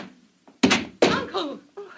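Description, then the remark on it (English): A thrown spear strikes a wooden door with a sharp, heavy thud, missing by an inch a woman opening the door, followed by a second impact and a burst of voices exclaiming just after. “The spear missed her by an inch.”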